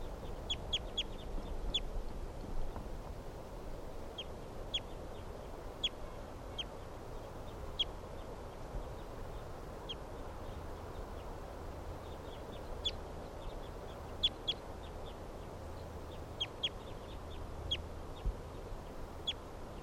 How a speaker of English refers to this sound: Some other birds in the background here.